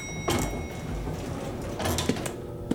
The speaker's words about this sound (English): Door's closed. Did I just hear the elevator door close?